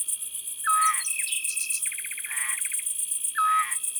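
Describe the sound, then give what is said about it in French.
A scops owl, the smallest owl, about the size of a blackbird, gives its soft, flute-like whistled note twice, a few seconds apart, amid chirping birds and a steady high insect drone. “Ça, c'est un petit duc. Cette note de flûte.”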